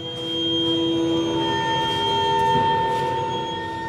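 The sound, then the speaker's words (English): Trays rotating like a carousel inside a huge 15-foot-wide oven baking mooncakes give off a sustained, eerie tone made of several steady, pure pitches layered together, some sliding slightly, over a low mechanical rumble, with faint airy hiss bursts. “The trays rotate like a carousel, sounding eerie and celestial.”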